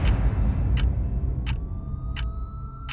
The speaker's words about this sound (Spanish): Con el rugido de los motores y las luces de las patrullas cortando la noche, la policía avanzaba hacia el edificio.